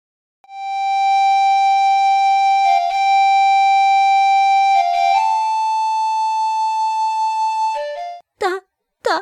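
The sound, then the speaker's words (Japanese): A mournful flute plays a slow line of long, sustained high notes with only small steps in pitch, steady and fairly loud for about eight seconds before a few brief sounds follow. “物悲しい笛の音が聞こえてきたのでありました。”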